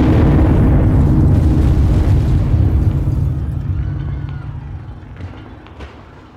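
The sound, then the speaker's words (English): A massive explosion of £100 of dynamite in a horse-drawn cart in the middle of the street, in front of the U.S. Assay Office, erupts at full force: a deep, rumbling roar thick with low-end boom that slowly decays over several seconds, with scattered crackles and debris noises trailing off. “£100 of dynamite erupted in the middle of the street.”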